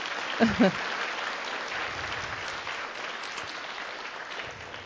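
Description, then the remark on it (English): Steady applause from an audience fills the space, a dense wash of clapping that holds evenly throughout, with a couple of brief voiced exclamations rising early on; a round of applause for the person who gave the introduction. “Let's give Maida a round of applause.”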